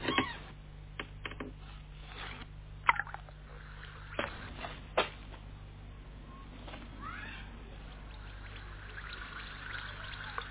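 A cat meows a few times against a noisy background of clatter and a low steady hum, with a fainter rising meow later on.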